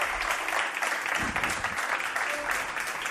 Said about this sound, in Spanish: A mi m'agradaria molt, perquè si no, no sóc persona ni reacciono, un petit aplaudiment per començar aquesta superfesta de la ràdio.